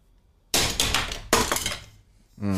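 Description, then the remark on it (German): A stone die is thrown onto a computer mouse, making two loud, sharp clattering knocks with a brief rattling decay, followed by a voice starting to speak at the end. “Ich habe den auf meine Computermaus geschmissen.”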